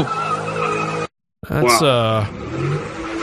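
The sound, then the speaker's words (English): A car engine drones loudly, cuts out briefly, then tires squeal in a sharp, wavering screech as the car skids during a street takeover, spins 180 degrees and flips upside down, before rough, noisy rumbling and what sounds like crowd voices. “if you remember from Wednesday's show, we started off with the race car takeover shit.”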